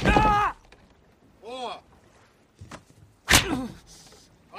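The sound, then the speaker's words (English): Sharp whip cracks land a couple of times, loud, during a flogging, between a man's strained cries and groans of pain. “And we have a hard cut right into the middle of whipping”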